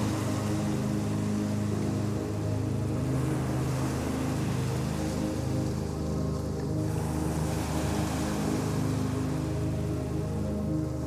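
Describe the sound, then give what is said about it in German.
Steady ocean waves wash in a continuous, rumbling surge with gentle swells in intensity, fairly loud, with no voices present. “Für einen kurzen Moment lässt du dich von den Wellen davontragen.”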